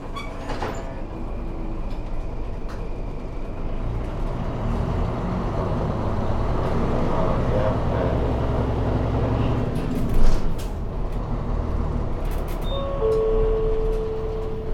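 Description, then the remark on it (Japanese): Steady low engine drone and road rumble fill the inside of a moving one-man bus running from Iwaki Station to Takasawa via Uchigo Miya, with a brief clunk partway through and a faint electronic tone near the end; no one speaks. “このバスはいわき駅前発内郷宮経由高沢行きのワンマンカーでございます。”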